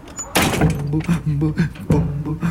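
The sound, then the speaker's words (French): A wooden door bangs twice as it is opened and closed, once near the start and again toward the end, each with a sharp, fairly loud knock, while a voice talks throughout. “Une porte en bois.”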